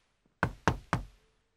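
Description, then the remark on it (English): Three firm knocks on the wooden door of an ogre's castle, as Puss in Boots knocks, in quick, even succession, loud, each with a short resonant decay, with no talking. “He knocks on the door.”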